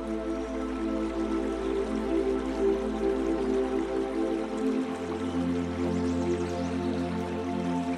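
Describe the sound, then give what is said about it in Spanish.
Flowing water of a crystal-clear, fully transparent river with a steady, continuous babbling rush and small trickling details, over a low sustained humming drone that shifts partway through; no one speaks. “La saludas con la mano y te aproximas al río junto a ella.”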